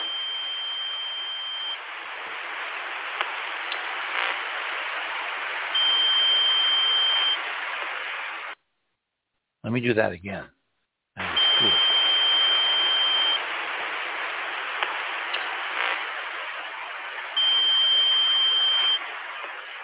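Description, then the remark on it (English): A long, steady electronic tone rides over a dense band of radio-like static, with a thin high whine surfacing in stretches; it cuts out briefly while a voice speaks, then resumes. “And then if you go into number 13, this is the tone that extends longer.”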